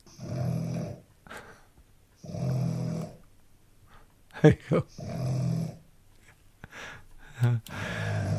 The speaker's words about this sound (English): And this is a 5-month-old bulldog.